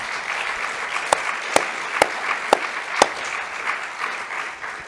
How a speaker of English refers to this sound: So let's just give the Lord a round of applause. Can we do that?